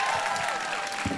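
An audience claps steadily, a dense wash of many hands forming continuous applause at a fairly loud, even level, with no voices standing out.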